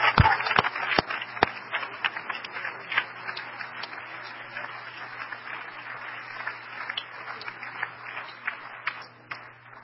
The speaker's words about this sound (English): I feel like having church here tonight. Hey, oh, that's all right. Give a Lord a hand clap of praise.